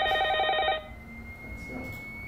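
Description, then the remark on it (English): A telephone rings in one short, loud burst of rapidly warbling electronic tones, then cuts off abruptly, leaving a faint lingering tone over quiet background noise. “The point is, the phone could ring at any time.”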